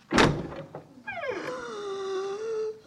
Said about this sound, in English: Please open this door.